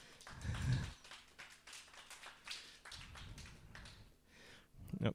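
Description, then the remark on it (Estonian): A church audience applauds the previous day's gathering for about five seconds, many hands clapping in a dense, uneven patter, with low murmuring voices or cheers rising at the start and again near the end. “Oli, teeme ühe aplausi, kui vägev see oli eile siis.”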